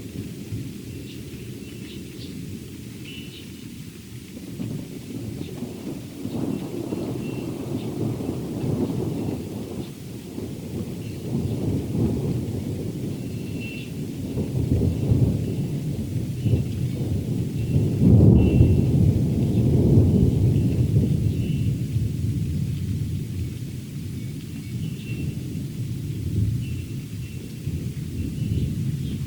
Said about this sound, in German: Also das Gewitter ist jetzt über uns rübergezogen schon. Den Anfang, das erste Donnergrollen, bevor es kam, das konnte ich nicht aufnehmen. Aber jetzt hört ihr sozusagen noch die Nachwehen.